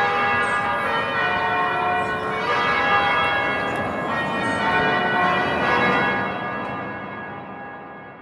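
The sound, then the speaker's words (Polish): Church bells in Bergamo peal continuously in a dense, overlapping wash of ringing tones, loud and steady throughout, easing off slightly toward the end. No voices are heard. “Mam nadzieję, że kiedy wrócimy do Bergamo jeszcze raz posłuchać dzwonów, to spotkamy ich wszystkich w dobrym zdrowiu.”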